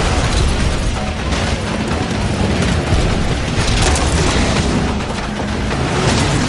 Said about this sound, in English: Every time it goes through a new house, there's just a new explosion. Each time the Hummer goes through a new house.